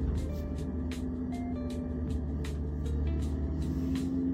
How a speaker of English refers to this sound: Yes, we are shifting gears, watching the ongoing traffic. We have signs, so we can use our turn signal. We also have pedestrians. We have ongoing traffic, crazy traffic.